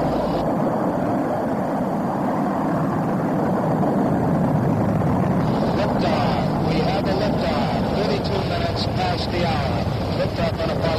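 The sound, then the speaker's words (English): The engines of the Apollo 11 rocket roar at liftoff on July 16, 1969, in a loud, continuous, rumbling wall of noise that holds steady throughout, turning harsher and more crackling partway through. “On July 16th, 1969, three American astronauts lifted off in Apollo 11.”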